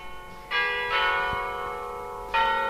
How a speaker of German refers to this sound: Von Ferne hört man das Glockenspiel der Westerkirche.